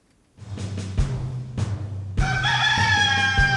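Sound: rooster crowing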